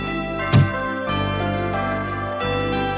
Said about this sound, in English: There's nothing like the sweet sound of tinkling bells to usher in the festive spirit.